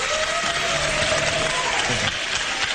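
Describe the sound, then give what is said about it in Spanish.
An audience bursts into steady, loud applause, a dense wash of many hands clapping at once that holds evenly for a few seconds. “¡Un aplauso para”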